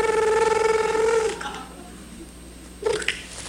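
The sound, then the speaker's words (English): In a studio, a person imitates a telephone ringing for a mock 911 call skit, with a sustained, warbling, mid-pitched vocal tone lasting just over a second, followed by a pause and a brief, softer vocal sound. “Okay, so can you make a ringing noise?”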